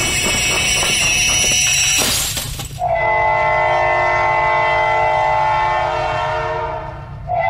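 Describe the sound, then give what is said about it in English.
A loud heritage railway train rumbles steadily as it arrives at its destination, with a crashing burst early on, followed by a long, sustained horn blast ringing out over the clattering wheels. “We hope you enjoyed the ride on our Heritage Railway project, and hope you'll join us again soon.”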